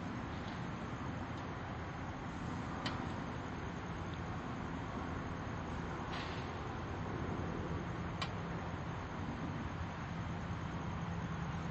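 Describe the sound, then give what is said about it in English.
A steady, low roaring drone of an airplane passing overhead, a broad rumbling wash of engine noise that holds fairly even for the whole stretch, with no voices. “Oh, okay. That's a plane.”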